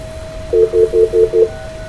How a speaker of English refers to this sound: Now we're going to do, I'm going to hit star 69. What do they call that?